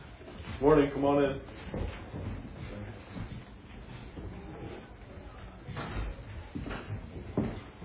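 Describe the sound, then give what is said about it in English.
A door creaks open with a short, squeaky groan, then a few soft knocks and shuffling footsteps follow as people come in, with muffled voices murmuring. “That is the first time I've ever seen someone try to come through that door, so just leave it.”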